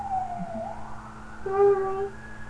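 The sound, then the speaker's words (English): A fire engine siren wails with a steady tone that swoops gradually upward in pitch, moderately loud and continuous throughout, with a low background hum underneath. “Oh! Fire engine. It's a fire engine.”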